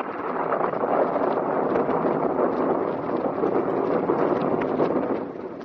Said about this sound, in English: Whew. Listen to that thunder trot. I love storms, don't you,